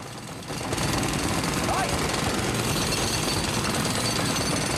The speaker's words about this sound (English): A pneumatic drill piles into the cement next to the hand.